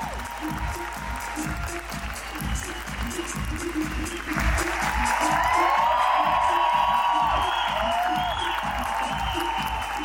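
An audience claps steadily to welcome entrepreneur Caíto Maia, a dense, rhythmic wash of applause, swelling louder midway as cheers and whoops join in over the sustained clapping.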